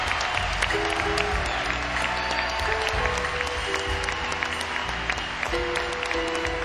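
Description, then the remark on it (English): A crowd applauds steadily, dense clapping at a constant loud level throughout, with some whoops and a few faint sustained musical tones underneath. “Would you give a big hand?”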